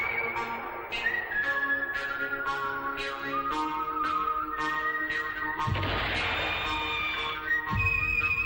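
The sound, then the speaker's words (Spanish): A whistled rendition of a melody from Sergio Leone's western film soundtracks rises over steady orchestral backing with rhythmic plucked accents and a wind sound in the background, loud, with no voices. “Ese silbido, ¿eh?”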